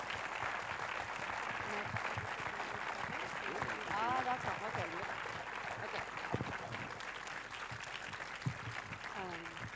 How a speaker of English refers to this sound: Et aujourd'hui, et ce week-end, Monsieur Richard Linklater, le créateur de Austin Film Society, qu'on va tous applaudir et accueillir pour cette quatrième séance et ce week-end.